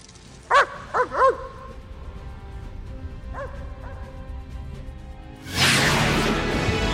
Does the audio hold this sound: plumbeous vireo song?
no